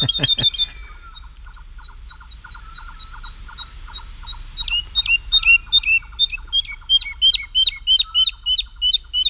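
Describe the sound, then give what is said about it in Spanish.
A woodlark sings in flight high up, wings flapping frantically, over fields at Daimiel, Spain: a long, clear song of rapid repeated whistled notes, building into a fluting, descending series of loud phrases, with no voices. “Y la totobía está, es una alondra, la alondra de bosque, la totobía está volando arriba, aleteando frenéticamente y cantando.”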